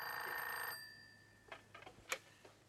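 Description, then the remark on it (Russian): A telephone bell rings loudly in one short metallic burst, its tone lingering briefly as it fades, followed by a few sharp clicks and knocks. “Ну, батька сейчас будет звонить.”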